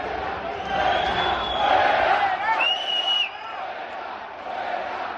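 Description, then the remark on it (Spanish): A crowd at a tennis court shouting and cheering in a steady roar during a match between a Spanish and an Argentine player, with a few high, drawn-out calls cutting through. It is loudest for the first three seconds, then eases slightly. “Pero mira, tenemos los gritos para que ustedes valoren un poco el ambiente que se estaba viviendo en la pista con el argentino.”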